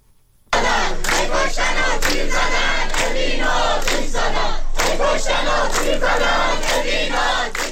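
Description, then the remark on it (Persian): A large crowd of students at Persian Gulf University in Bushehr, Iran, chants the protest slogan 'Hey koshtan va tir zadan, Evin ro atish zadan' in unison, loud and sustained, with rhythmic rising and falling phrases and shouted syllables repeating throughout after a brief quiet start. “دانشجویان دانشگاه خلیج فارس بوشهر با شعار هی کشتن و تیر زدن، اوین رو آتیش زدن، اعتراض خود را به حملات نیروهای امنیتی و حکومتی به زندانیان زندان اوین ابراز داشتند.”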